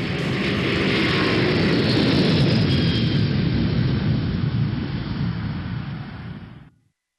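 A loud, steady jet roar rumbles throughout, a broad low-heavy rush of engine noise with a hissy upper edge, easing off slightly before cutting out abruptly near the end. No voices.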